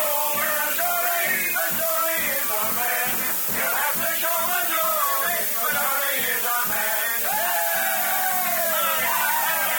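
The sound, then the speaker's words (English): A crowd celebrating the election of a new sheriff cheers and shouts steadily for about ten seconds, many voices yelling over one another at once, loud, with a constant hiss of noise underneath. “It's me there cheering and shouting for.”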